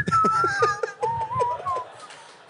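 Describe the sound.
A person whistles a short tune in imitation of Omar whistling, the melody gliding between a few sustained notes while soft, rhythmic chuckles or breathy puffs pulse underneath.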